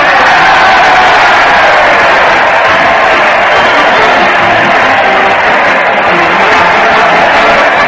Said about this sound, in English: Listen to that crowd. They're cheering Fred Allen as he leads his weekly parade to the old Town Hall.